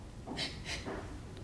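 A girl sitting on her bed sobs quietly, a few shaky, breathy catches of breath in close succession, soft with no talking.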